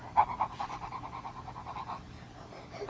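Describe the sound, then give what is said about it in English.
Quick, rhythmic panting from a dog, fairly soft, with steady breathy huffs repeating for a couple of seconds before easing off. “See a doggy?”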